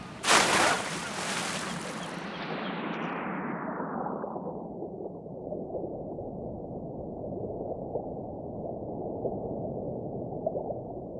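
A loud splash of someone diving into warm water, followed by the sound turning muffled and dull as it goes under, leaving a steady low underwater rumble with no talking.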